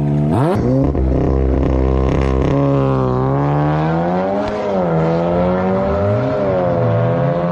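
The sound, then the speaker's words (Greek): A second-generation GTI car engine, 16-valve with 140 horsepower, revs up sharply, then holds a loud, steady drone whose pitch swells and dips over several seconds, with no voices. “Δηλαδή, είναι ένα αυτοκίνητο ολοκληρωμένο, 140 άλογα τότε, 16-βάλβιο, υπήρχε και το 8-βάλβιο εδώ πριν, μιλάμε στην έκδοση GTI.”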